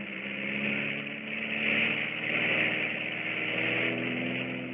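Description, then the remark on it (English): A pilotless torpedo plane is catapulted off a launch track and takes off, its engine a steady, buzzing drone with strong low harmonics that swells slightly in loudness over several seconds, with no voices. “You see, Commander, the torpedo plane will be catapulted off that track over there.”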